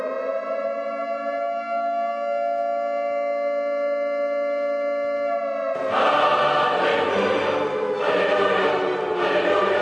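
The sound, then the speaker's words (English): An air raid warning siren holds a loud, steady wailing tone for several seconds, then cuts abruptly into a harsh, dense burst of noise that continues to the end. “So I'm not sure if you have heard the Catholic air raid warning siren.”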